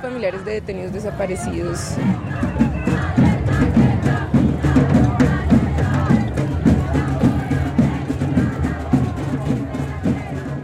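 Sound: crowd of demonstrators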